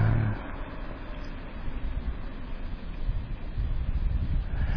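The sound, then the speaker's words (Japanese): A white and black two-tone car marked as a traffic safety instructor vehicle, resembling a police car but without a red light, approaches from behind in fine weather, its low engine and road rumble swelling gradually under steady wind buffeting the microphone, growing louder toward the end with no one speaking. “今ちょっと後方白と黒のツートンカラーの車が走ってきました。”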